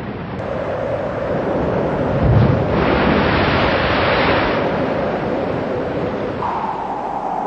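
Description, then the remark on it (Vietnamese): A stormy roar of wind and rushing rain fills the scene steadily, with a brief deep rumble of thunder swelling up near the start before the gusty noise carries on alone. “Thương tình, Thạch Sanh cho hai mẹ con Lý Thông trở về làng, nhưng dọc đường hai mẹ con gian ác, gặp trận mưa giông.”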